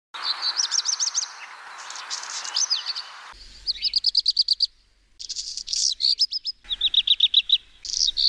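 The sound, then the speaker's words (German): A black redstart sings in short repeated bursts of rapid, high buzzy notes, with scratchy, crackling phrases between them; the song is fairly loud and clear, with no talking. “Und so hört sich der Hausrotschwanz an.”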